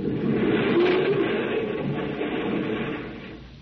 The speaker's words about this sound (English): Another earthquake!